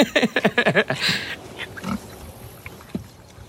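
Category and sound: animal, pigs grunting and oinking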